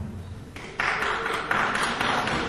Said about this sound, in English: Who is that clapping?